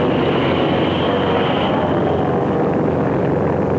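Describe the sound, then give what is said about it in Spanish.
A loud, steady roar of airplane engines in flight fills the whole stretch, a dense continuous drone with no break and no voices. “Ahora somos nosotros los que tenemos los aviones más veloces.”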